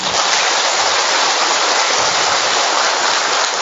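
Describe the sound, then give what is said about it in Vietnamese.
A big round of applause from an audience at a vigil Mass for Saints Peter and Paul on 28 June, a dense, steady wash of clapping that stays loud and even for several seconds with no voices over it. “Chúng ta đốt một tràng pháo tay thật lớn.”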